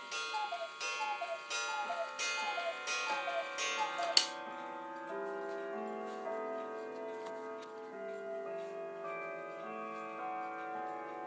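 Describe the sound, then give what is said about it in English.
A cuckoo clock ticks steadily while repeated two-note calls sound over it; after a sharp click, the ticking stops and sustained, ringing tones linger and slowly fade. “And the reason that cuckoo sounded very ill when it first started and went, was because it had obviously, it was obviously”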